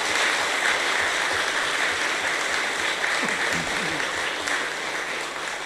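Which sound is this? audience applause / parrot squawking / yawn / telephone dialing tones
audience applause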